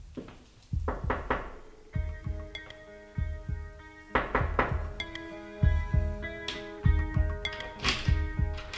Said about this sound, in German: Uiuiui, leise, Kollegen. Ich höre Schritte.